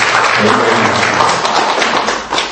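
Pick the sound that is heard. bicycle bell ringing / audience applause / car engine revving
audience applause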